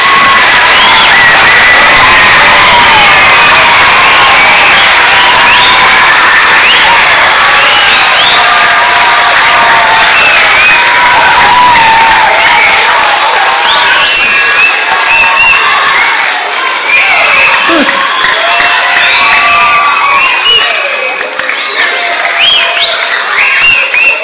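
A loud, sustained burst of applause and cheering for children near the end of a church service, dense clapping mixed with high excited shouts and whoops from many voices, including children, without letting up.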